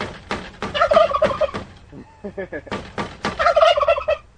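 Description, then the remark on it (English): Heirloom turkeys in a pen outside greenhouses gobble loudly after their pen is tapped, in two rapid, rattling bursts separated by a short pause filled with softer clucking calls. “Allen taps on the turkey's pen to get them to sound off.”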